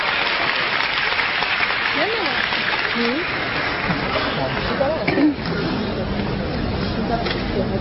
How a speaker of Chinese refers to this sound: 接下来请您欣赏相声《批聊斋》，表演者徐德亮、王文林，掌声有请。